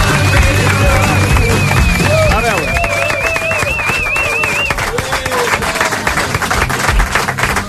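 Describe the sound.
An audience applauds steadily and loudly throughout, dense clapping mixed with scattered cheers and voices, while a high wavering whistle-like tone rides over the first half before fading.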